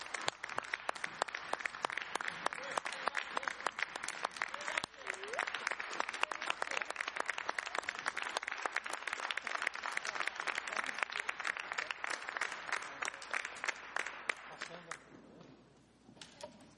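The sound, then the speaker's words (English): Sustained applause from an audience for the staff, dense overlapping claps that hold steady for about fifteen seconds before thinning out and fading at the end. “Anyway, let's give a big hand to the staff.”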